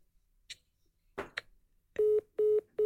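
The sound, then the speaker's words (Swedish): A few soft clicks, then three short, steady electronic beeps at the same pitch, evenly spaced like keys pressed on a telephone keypad, clear with no talking, as someone dials a phone number. “Jag ringer runt, jag slår in mitt eget nummer men ändrar siffrorna lite.”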